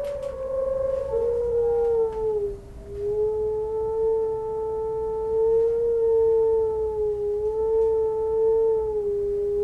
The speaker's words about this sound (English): and the wind that whistles into her window every day at 4 p.m.